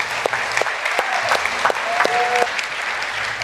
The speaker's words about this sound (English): That's why they're clapping, because you know they're just joining with heaven and just saying, all right, awesome.